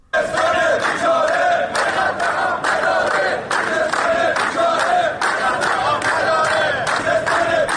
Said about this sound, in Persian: کارگران کارخانه نیشکر هفت‌تپه امروز در ششمین روز اعتصاب خود در محوطه آن شرکت راهپیمایی کردند. کارگران در این راهپیمایی در اعتراض به وضعیت معیشتی خود و همچنین مشکل کم آبی در استان خوزستان شعار دادند.